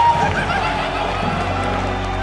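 A large wrestling arena crowd at a WCW-style match roars steadily, live and not piped in: a dense wash of many voices that may be chanting, holding loud and unbroken for a couple of seconds with no single speaker standing out.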